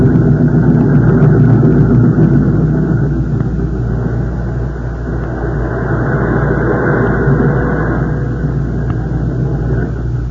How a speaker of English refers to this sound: See that airplane? Where? Anyway, you dope. Huh? Oh, yeah. Say, beautiful thing, ain't it? Flying pretty low.